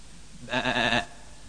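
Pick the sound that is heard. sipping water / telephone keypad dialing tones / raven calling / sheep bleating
sheep bleating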